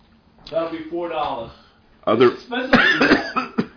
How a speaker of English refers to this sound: I'm going to start coughing. Hey, I'm going to need some water. Yeah, give me a little water.